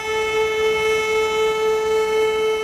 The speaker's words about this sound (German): 2 Minuten heulen im ganzen Land die Sirenen.